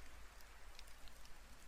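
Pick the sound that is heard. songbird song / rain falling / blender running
rain falling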